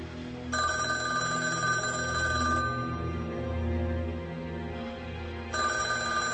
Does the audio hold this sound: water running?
no